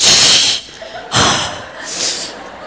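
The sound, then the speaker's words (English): A parent mimics the exasperated huff and snort of a 15-year-old daughter at the sound of the parent's voice: three loud, breathy bursts of air forced through the nose and mouth, with no talking. “I have a daughter who's 15 years old, who has started rolling her eyes quite a bit in the last 2 years, and she's been having breathing problems lately. They seem to be associated with me.”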